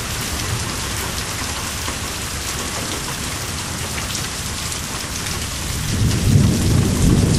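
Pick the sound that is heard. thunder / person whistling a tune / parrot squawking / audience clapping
thunder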